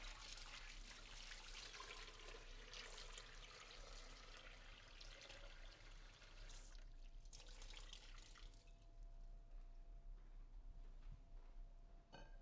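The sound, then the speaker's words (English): Water pours steadily into a baking pan, filling it up to about halfway to the pans set inside, a splashing stream for several seconds that thins out into faint trickles and drips near the end, with no talking. “So then I'm just going to fill this with water up to about halfway to the pans.”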